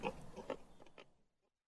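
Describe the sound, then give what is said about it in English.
Several short, throaty grunts and snorts from pigs about to be weighed come in quick succession, moderately loud, fading out after about a second with no one speaking. “Are you going to come and help me weigh these pigs?”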